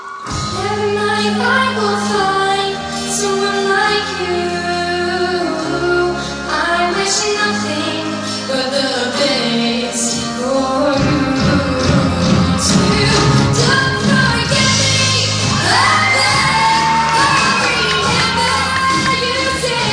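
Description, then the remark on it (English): A live theater audience at a 2012 show sings along loudly with the music, many voices blending into sustained, wavering notes over a stepping bass line, unbroken throughout, with a swell of cheering energy near the end. “And what I want everyone to listen to right now, listen to the crowd, as Harry Carey used to say.”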